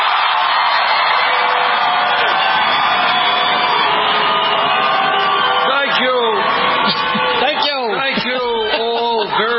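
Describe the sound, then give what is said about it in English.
A large crowd of Bernie Sanders supporters at a rally in Phoenix roars and cheers loudly and continuously, a dense wash of many voices, with individual shouts and whoops rising out of the din toward the end. “and this is a loud crowd.”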